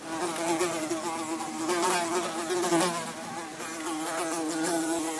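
A fly buzzes continuously for about five seconds as it breaks free from a spider and flies away, a steady droning whine with slight wavering pitch, fairly loud and alone with no voices.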